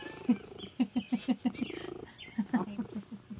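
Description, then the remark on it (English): A female domestic cat purrs in a steady, rhythmic pulsing rumble. It comes in two stretches separated by a brief pause, with no talking over it. “She's a good cat.”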